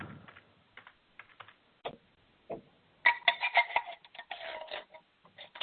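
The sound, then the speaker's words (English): Objects being knocked around beside a phone by someone dialed into a meeting: scattered soft thumps and taps, then a denser burst of clattering knocks and rattles midway through, thin and muffled as if heard over a call. No one speaks. “Somebody's knocking things around next to their phone.”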